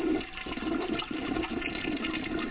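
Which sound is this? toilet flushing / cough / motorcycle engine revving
toilet flushing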